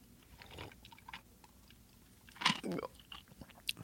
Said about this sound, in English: Are you drinking? Taking something. A sip.